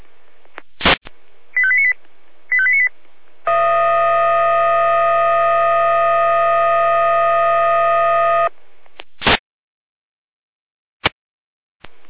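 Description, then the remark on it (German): An emergency dispatch alarm call tone from the Jena dispatch centre (Leitstelle Jena), alerting the Florian Frauen-Briesnitz unit to a fallen tree on the road: two short electronic beeps, then a steady, loud multi-pitched tone holding for about five seconds, framed by sharp radio clicks before and after. No one speaks. “Hier nach dem Alarmruf.”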